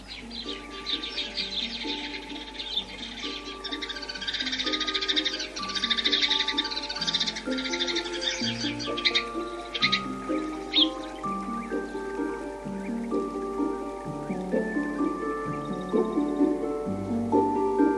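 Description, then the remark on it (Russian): A sparrow chirps in winter in quick, busy bursts, thickest during the first ten seconds, while gentle melodic music plays steadily underneath throughout. “Воробьишка-трошка зимой.”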